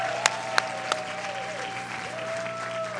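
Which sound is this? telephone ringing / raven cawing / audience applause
audience applause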